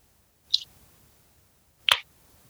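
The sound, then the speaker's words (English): Two crisp metallic cracks of cans of Reddish, a 7.9% double red hoppy ale, being opened about a second and a half apart, the second louder with a brief fizzing burst. “So let's crack these open.”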